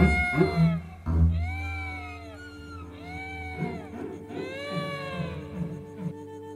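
cat meowing

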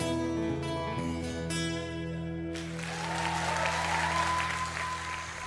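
audience applauding

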